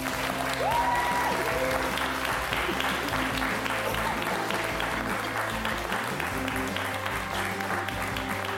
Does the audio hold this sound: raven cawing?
no